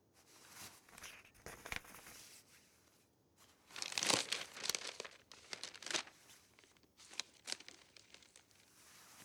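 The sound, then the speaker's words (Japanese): Paper rustles and crinkles as a letter from the heir of a duke's family is unfolded and handled, with irregular bursts of crisp crackling and brief pauses between movements; no voices. “今日帰りに公爵家の跡取りから手紙をもらったんだってね。いい子だから見せてごらん。”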